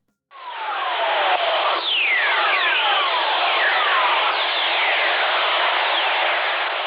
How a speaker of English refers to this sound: This is lightning. Well, the sound lightning makes in outer space. When lightning strikes down here, it releases all these radio waves out into the cosmos. They're called Earth Whistlers. People first heard Earth Whistlers back in the 19th century.